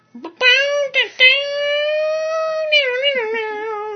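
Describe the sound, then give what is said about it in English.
Someone vocally imitates an electric guitar solo: a few short stabs, then a long, loud, sustained wailing note that bends and wavers with vibrato, with nothing else audible. “Electric guitar solo.”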